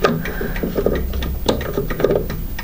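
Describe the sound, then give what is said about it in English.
A basic mechanical chime clock with a single chime sound, wound with a key, ticks in a steady run of sharp clicks with faint metallic ringing and mechanism noise underneath, and no voices. “it's a basic chime clock. It's just got the one chime sound.”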